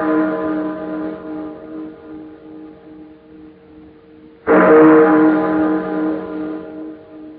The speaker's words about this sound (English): I've been caring for these chimes nearly 20 years now. And this is the first time I ever know them to ring late. And on Christmas Eve, too.